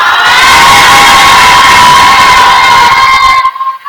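A church audience erupts in a loud, sustained shout of amen and cheering, a dense wall of voices with high-pitched cries riding on top, holding steady for over three seconds before quickly dropping away.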